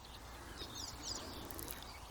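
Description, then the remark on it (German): Faint, squeaky bird calls, like 'mie, mie', come through in a few short high chirps from a bird right ahead, set against a steady hiss of outdoor background noise with no one talking. “Man hört vielleicht diese quietschenden Geräusche.”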